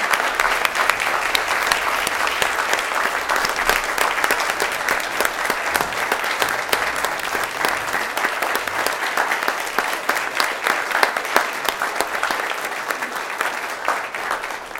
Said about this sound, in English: Let's give her a great round of applause.